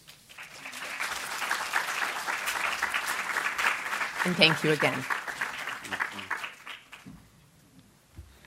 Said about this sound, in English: So with some more applause, we welcome John Baldessari.